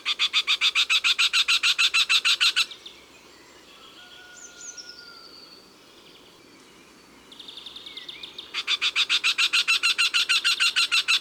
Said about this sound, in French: À la lisière du bois, ou dans un vieux verger, on entendra peut-être le chant du torcol. Lui aussi est un drôle d'oiseau, de la taille d'un moineau, spécialiste de la chasse aux fourmis.